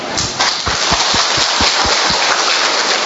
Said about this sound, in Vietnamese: Một tràng pháo tay thật to nữa thưa anh chị em.